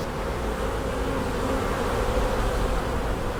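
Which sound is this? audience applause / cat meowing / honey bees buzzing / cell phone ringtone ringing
honey bees buzzing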